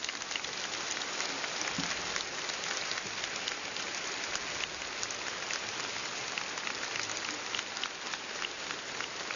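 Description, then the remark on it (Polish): Sustained, dense applause from a large audience at a Radio Maryja Family meeting, thanking viewers of TV Trwam and listeners of Radio Maryja: a steady wash of crackling claps that holds at an even level for the full length with no voices over it. “Raz jeszcze z tego miejsca podziękujmy widzom telewizji Trwam, słuchaczom Radia Maryja gorącymi oklaskami za to, że byli razem z nami.”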